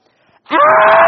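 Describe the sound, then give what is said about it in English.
A man lets out a loud, sustained high-pitched scream imitating a woman shrieking on a thrill ride, rising suddenly after a near-silent start and holding steady to the end. “If we were to go to Six Flags over Georgia right now, you would hear some woman screaming her head off. It's really not a woman. It's me.”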